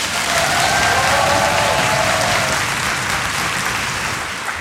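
A large live audience in a theatre in Chemnitz, Germany, applauds loudly and continuously, a dense wash of clapping that holds steady throughout, with faint cheers rising briefly near the start.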